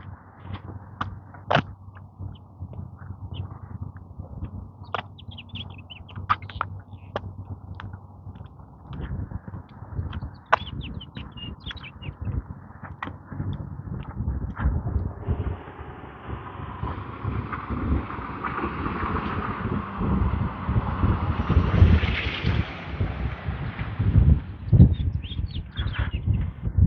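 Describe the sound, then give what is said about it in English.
Birds chirp in short, scattered bursts outdoors on a warm day, over a steady low rumble of wind that grows louder and more blustery in the second half. No one speaks. “Birds chirping away.”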